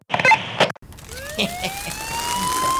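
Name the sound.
police car siren approaching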